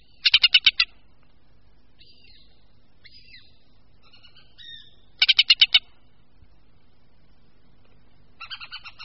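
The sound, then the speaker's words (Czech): Hen harrier calls: two loud bursts of about five rapid, harsh, high chattering notes, separated by softer scattered calls, with a weaker chattering series at the end. “Hlas motáka Pilicha nepatří mezi nejznámější hlasy našich dravců a podobně tomu asi bude i s jeho vzhledem.”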